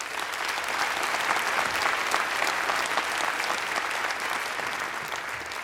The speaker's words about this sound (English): Great idea you've clapped for, right?